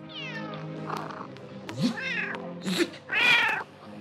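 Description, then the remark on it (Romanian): A tomcat meows several times in a row, clear, with drawn-out, wavering calls that grow louder and more insistent toward the end. No one speaks. “Și așa s-a făcut că prâslea a luat motanul.”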